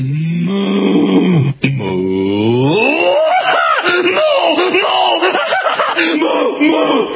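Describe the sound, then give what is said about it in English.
A loud, drawn-out cow-like moo opens, then the voice bends up and down in wavering, sung pitches, like a cow attempting a melody, continuing for several seconds without pause; presented as the first singing cow, apparently genetically engineered to sing. “Let's give a listen to the first singing cow, apparently genetically engineered to do so.”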